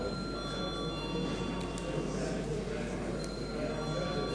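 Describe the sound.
A voting bell rings steadily in a parliament chamber before deputies vote on passing a bill to a committee, a sustained high electric tone with a faint murmur of voices and room noise underneath.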